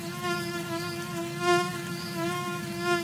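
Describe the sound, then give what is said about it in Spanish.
A mosquito whines steadily, its thin, droning buzz rising and falling slightly in loudness as it hovers, with no voices present. “El paludismo, también conocido como malaria, es una infección provocada por un parásito que se transmite a través de la picadura de un mosquito, pero no cualquier mosquito.”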